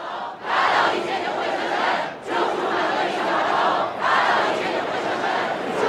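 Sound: crowd shouting slogans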